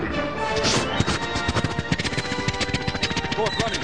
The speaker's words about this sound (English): Horse running. Come on, Silver! Come on, Scout.